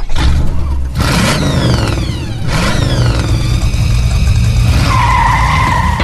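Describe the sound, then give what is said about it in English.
Loud car engines rev and roar, with rising whines sweeping upward in bursts and tires squealing, like cars skidding and accelerating hard on a track, opening the automotive program You Oughta Know with Dave Stahl. “Buckle up and start your engines.”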